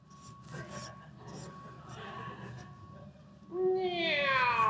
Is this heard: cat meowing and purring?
yes